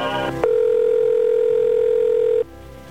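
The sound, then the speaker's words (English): A telephone line rings once before an operator picks up: a steady, loud, mid-pitched electronic tone holds for about two seconds, then cuts off. No one speaks. “He's about to pick up the phone.”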